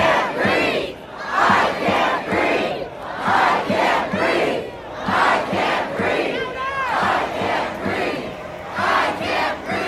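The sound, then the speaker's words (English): A large protest crowd in the streets in America shouts in loud, rhythmic bursts, many voices rising together in repeated chant-like surges about once a second, with no single speaker standing out. “So we're seeing the same shouts for basic humanity and to allow people to breathe and live freely all across America in the streets.”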